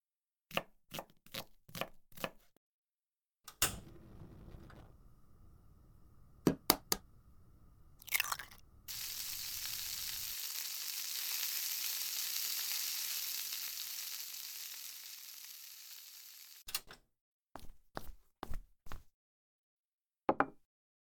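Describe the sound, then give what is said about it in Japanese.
Quick knife chops on a cutting board, a few bursts of clattering, then a long steady hiss of food sizzling in a pan, followed by another run of sharp chopping taps. No one speaks. “ソファーにでも座ってて、すぐ作るから。”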